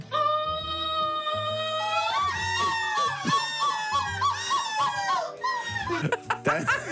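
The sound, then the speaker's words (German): A person at the 5th European Seagull Screaming Championship in Belgium shrieks and squawks in imitation of seagull calls, a string of loud, wavering cries with honking pulses, continuous for several seconds, ending in harsher squawks. “In Belgien fand die 5. Möwenschrei-EM statt.”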